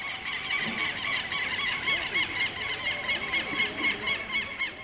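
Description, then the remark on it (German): A dense, continuous chorus of harsh, squawking parrot calls from the trees of a small village of 1900 inhabitants, many birds screeching over one another at once, loud with a steady noisy background. “In den Bäumen sitzen Papageien”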